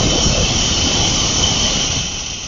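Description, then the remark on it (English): An espresso machine's steam wand froths milk with a loud, steady hiss that holds constant throughout, easing slightly toward the end, with no voices. “That's nice steam coming out for you.”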